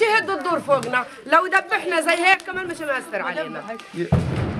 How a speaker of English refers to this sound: The woman barely pauses as an explosion sounds in the background. It's nothing, she says. Sometimes in the daytime, they just make noise to scare the children away from the rubble.